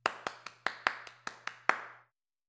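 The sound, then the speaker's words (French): A mother applauds at the end of a show, striking her palms together about nine times in a quick, steady rhythm, each sharp smack crisp and bright, a few landing harder than others, with a faint low hum underneath and no voices. “Quand le spectacle est terminé, maman applaudit. Elle frappe ensemble les paumes de ses mains.”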